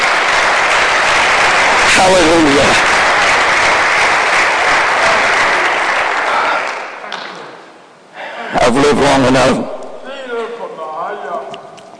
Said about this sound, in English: I want the musicians to come right now. Hallelujah. Can we give the Lord a hand clap of praise right now?